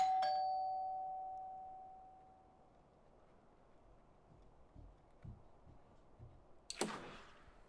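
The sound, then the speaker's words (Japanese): A doorbell chime rings once as the button is pressed, clear, its tone fading over a couple of seconds into quiet background noise with a few soft thumps, then a sharp clattering click near the end. “とりあえずピンポン押しちゃうね。”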